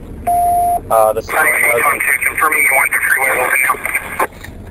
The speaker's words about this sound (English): Let's turn this radio down. There we go.